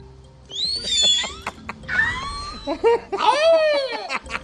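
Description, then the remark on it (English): Three whale calls in a row, from a 12-hour recording, follow one another, each a loud, rich, moaning sweep that rises and bends in pitch. There are short pauses between them and no voices over the calls. “So they record this for 12 hours, and the one time the whale does three things in a row, that's, oh my God, he's counting.”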